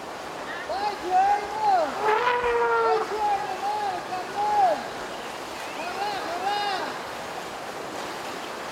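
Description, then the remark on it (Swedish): Elephants running toward their caretaker, who has returned after years away, give a run of high, squealing calls that rise and fall in pitch, repeating in bursts over a steady rushing, noisy background. “Och då låter de så här när de kommer.”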